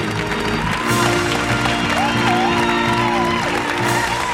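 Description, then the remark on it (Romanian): A steady wash of applause from a television show's studio audience fills the whole stretch, dense and loud, with scattered whoops and cheers rising from the crowd over the clapping. “Aplauze, aplauze, aplauze, vă rog!”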